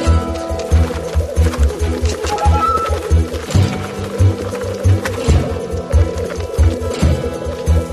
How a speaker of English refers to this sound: The tundra is released from its prison of snow and ice. It's time for black grouse to find their partners. And they do it by means of a duel. This is lekking.